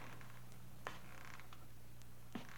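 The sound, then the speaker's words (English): Two faint, brief creaks of an old wooden house, spaced well apart, over a steady low hum in otherwise quiet surroundings, with no voices. “I heard the feet coming up the stairs, or was it just the creaking of the old house?”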